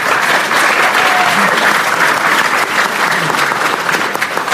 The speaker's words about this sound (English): All right, it's pretty cool to get a clap before we've even started.